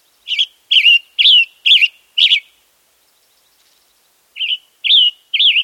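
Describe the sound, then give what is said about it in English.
A western tanager calls in a series of short, clear chirping notes: five in quick succession, a brief pause, then three more, distinct with no voices or other sounds. “To keep the western tanager returning to our forests to breed during the summer, consider reaching for shade-grown coffee.”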